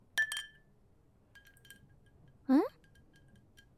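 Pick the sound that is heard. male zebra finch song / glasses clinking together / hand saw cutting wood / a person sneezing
glasses clinking together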